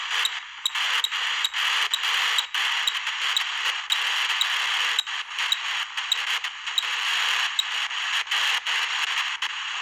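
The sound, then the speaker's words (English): A spirit box device growls with harsh, hissing static that cuts in and out in rapid choppy bursts, faint high beeps repeating steadily underneath, with no voices. “The spirit box section of it does not say words, it just kind of growls.”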